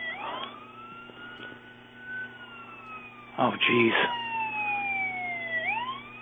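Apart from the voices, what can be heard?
emergency vehicle siren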